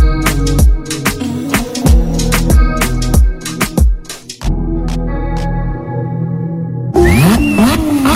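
An engine revs hard in a series of short, loud bursts with sharp clicks between them, then settles into a steady idle before a final rising rev as it accelerates. No one speaks.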